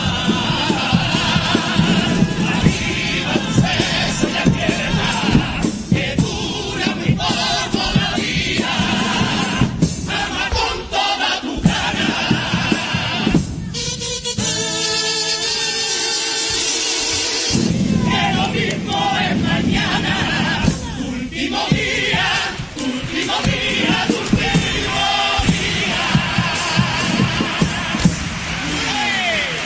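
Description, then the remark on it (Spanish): A packed audience at the Gran Teatro Falla gives a standing ovation, many in the stalls and the upper gallery standing with arms raised, with dense, continuous loud applause and cheering shouts that swell and hold throughout, briefly thinning midway as a more tonal, voice-like passage rises. “Pues de nuevo de pie, parte del aforo de este gran teatro Falla, que está a rebosar, muchos del patio de butaca de pie, aplaudiendo, brazos en alto, la parte alta del paraíso también de pie”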